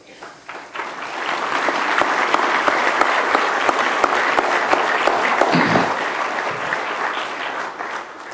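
A church audience claps loudly after a child dedication prayer, a dense, sustained wash of many hands that builds quickly within the first second, holds steady for several seconds, then eases slightly toward the end.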